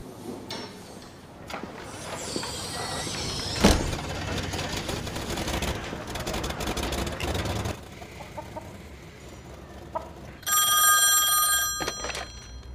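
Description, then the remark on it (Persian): Near the end, a telephone rings in one loud, buzzing burst on an outgoing call, following a stretch of busy rustling, clattering and bumps. No one speaks. “میرم یه تلفن بزنم.”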